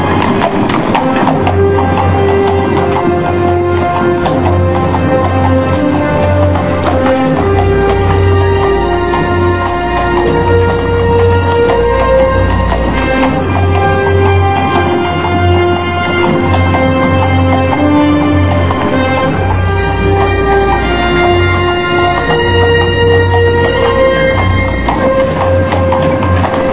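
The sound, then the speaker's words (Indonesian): A horse-drawn cart rolls along at an unhurried pace, hooves clip-clopping in a steady rhythm over a continuous low rumble, fairly loud for the whole stretch. “Kuda gerobak menggelinding perlahan.”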